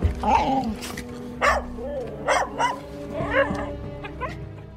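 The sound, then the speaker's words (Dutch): Bobby, Kuifje's small dog, barks in several short, excited bursts mixed with high whining whimpers, fairly loud, spread unevenly across the few seconds, as he tries to get under the cabinet in Kuifje's ransacked apartment. “Hij blaft en probeert onder de kast te geraken.”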